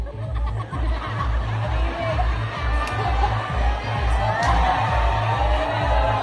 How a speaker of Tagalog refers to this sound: Ay si palakpak yun.